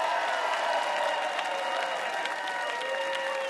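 Steady audience applause, a dense wash of many hands clapping at an even, sustained level with a few faint cheers mixed in, no one speaking.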